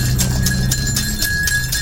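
Horse hooves clip-clop in a steady, even rhythm, about four or five beats per second, moderately loud over a low continuous rumble, with no talking.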